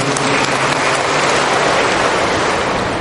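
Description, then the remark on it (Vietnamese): An audience claps together to thank a person, in a steady, dense burst of applause lasting about three seconds, loud and even throughout with no voices over it. “Chúng ta cảm ơn bạn một tràng pháo tay, thưa anh chị em.”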